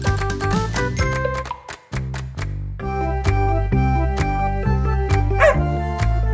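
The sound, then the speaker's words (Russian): A small dog, Gav-Gav, yips and barks in a quick series of short, high calls, set against bright, steady background music with no one talking. “Кажется, собачка Гав-Гав хочет сказать, здесь чего-то не хватает.”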